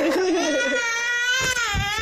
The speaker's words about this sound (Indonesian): Maaf ya, ini ada suara bayi.